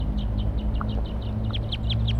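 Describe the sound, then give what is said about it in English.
Wild birds calling from a perch: a steady series of short, high chirps repeating every fraction of a second over a constant low rumble, with a few slightly lower notes mixed in. “Wild birds calling from a perch.”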